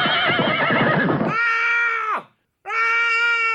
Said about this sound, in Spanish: Por un lado están los efectos concretos, que es eso que ves. Caballo cabalgando, esos gritos.